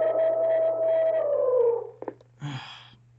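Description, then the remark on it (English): A loud, sustained elephant trumpet blares for nearly two seconds and bends downward in pitch, from elephants in an office, followed by a few sharp clicks and a short rough burst over a steady low hum. “I hate it when these elephants are invading the office.”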